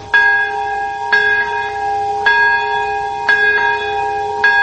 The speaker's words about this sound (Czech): Zvona su saglasila tačno u 11 sati 2 minuta kada je pre 65 godina bačena atomska bomba.